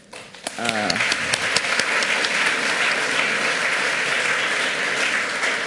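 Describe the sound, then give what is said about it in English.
A brief voice at the start gives way to a crowd's warm applause welcoming the lead software architect to talk about the software vision, dense, steady clapping that swells quickly and holds at an even, fairly loud level to the end. “Please give a warm applause.”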